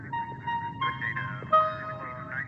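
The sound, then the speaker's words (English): The five-note tone sequence from Steven Spielberg's film Close Encounters of the Third Kind: a short melodic phrase of sustained, synth-like musical tones steps through several pitches, ringing clearly over a low, steady rumble with no one speaking. “The sound of those tones can only mean one thing: Steven Spielberg's Close Encounters of the Third Kind, a movie that came out 35 years ago this month.”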